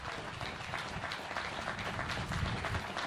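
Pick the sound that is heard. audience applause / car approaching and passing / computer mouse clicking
audience applause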